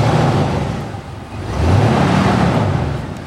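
vehicle, car engine revving

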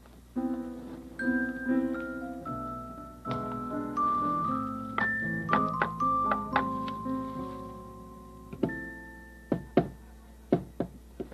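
impact, knocking on a door

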